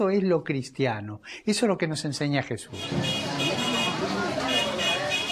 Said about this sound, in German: Mit dem Bus geht es hinunter in die südwestliche Spitze von Buenos Aires, in den Stadtteil Barracas.